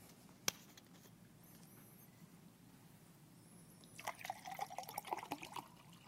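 Water is poured into a glass, a steady splashing trickle that starts after a brief clink and runs for a couple of seconds, fairly quiet, with no talking.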